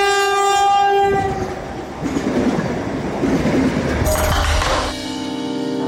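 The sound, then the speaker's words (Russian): The last high-speed Allegro passenger train to Russia at a station in Helsinki on 26 March 2022: a loud horn blast opens, then a steady rumbling roar of the train passing, and the horn sounds again at the end. No one speaks. “И, повторяю, последний поезд «Аллегро» в Россию.”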